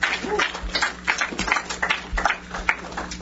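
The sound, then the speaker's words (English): An American audience claps as a guest is called up, a dense, irregular patter of many hands, holding a fairly steady, moderate loudness for a few seconds with no one speaking over it. “It's so American, they clap and you haven't even said anything.”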